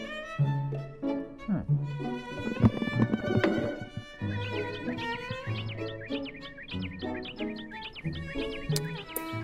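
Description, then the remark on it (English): A hawk calls repeatedly on a live hawk camera, in shrill, piercing cries that come in quick bursts over a dense, layered tonal background, steady throughout. “That hawk's sounding off.”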